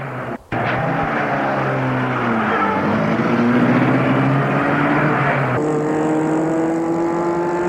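A car engine turns over and revs up, its steady drone rising in pitch as the vehicle pulls away and accelerates, fairly loud with no voices.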